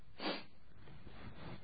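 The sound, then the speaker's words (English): A single short, sharp, disdainful sniff through the nose, fairly loud, followed by a faint breathy hiss trailing off. No talking. “Somebody who's not very willing to do something, when you ask them to do it, they sniff.”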